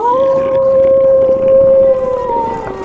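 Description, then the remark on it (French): A long, sustained howl holds a steady mournful pitch for nearly three seconds, loud, with no speech: a werewolf howling in the night. “Simon venait se transformer en loup-garou.”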